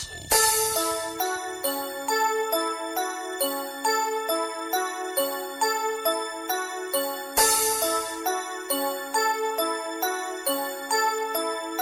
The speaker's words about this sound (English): Listen to the bells.